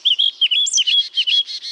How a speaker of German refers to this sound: Das war eine Mönchsgrasmücke.